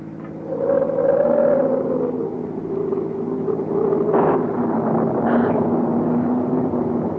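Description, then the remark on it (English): A car engine roars steadily and loudly, its pitch climbing and shifting as it revs while speeding along hill roads toward a village ahead of a storm, with no voices present. “Drive like mad to get out of these hills and into the village before the storm breaks.”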